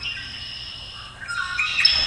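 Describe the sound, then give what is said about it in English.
Recorded wild birds sing and chirp in the woods around a museum, with high, bright calls overlapping and building toward the end over a low outdoor rumble. No one speaks. “And these are just some birds that I heard in the woods around the museum.”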